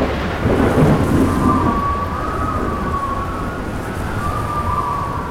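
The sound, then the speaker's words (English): A violent tornado storm roars with a deep rumble of thunder near the start, rain and wind hissing throughout, and a thin wailing howl drifting over the noise. No one speaks. “It was a tornado.”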